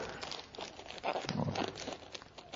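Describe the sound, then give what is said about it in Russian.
Crinkly, crackling rasps of adhesive tape being peeled off and pressed back down, fairly quiet, with a louder tearing burst in the middle and no talking. “Все, и мы отлепляем статус-кво. Вот этот скотч, его можно определенное количество.”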